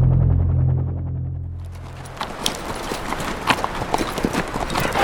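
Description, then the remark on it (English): A low droning rumble fades out, then the hooves of a stocky little gray Asian horse clip-clop steadily as Michael Rourke reins it back and it bucks slightly, a busy run of sharp irregular hoofbeats that continues to the end. “Michael Rourke reined back on the Asian horse under him, his eyes squinting against the full brightness of the sun, the stocky little gray bucking slightly, Michael knotting his fists into the coarse black of its mane, almost wrestling the animal”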